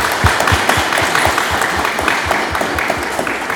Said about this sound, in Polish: Tego powitajmy oklaskami.